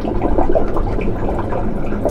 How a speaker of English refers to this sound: Seeing and hearing all this water move around up here really brings home that I'm standing on a massive source of future sea level rise.